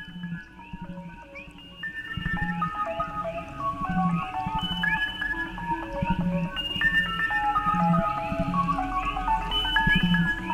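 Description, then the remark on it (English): A dense chorus of toads calling, with many overlapping chirps and trills at varied pitches over a low, pulsing hum. The noise stays steady and loud throughout, and nobody speaks. “I think it sounds like an ugly old toad.”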